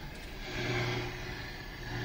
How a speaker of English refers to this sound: That's what we're getting most of the time. Just static. Yeah, it's not very good tonight. You can hear occasional voices. But you have to really contort yourself and hold the antenna to the window.